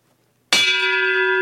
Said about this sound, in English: The bell tolls for them.